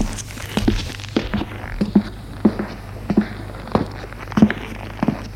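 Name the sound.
footsteps descending stairs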